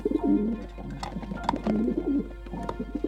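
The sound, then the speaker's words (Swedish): A snow-white dove that has landed outside a window coos in a series of soft, low, rolling phrases that rise and fall, pausing briefly between calls, over a faint steady low hum. “Precis en sån duva som Jonathan bett mig skicka från Nangiala.”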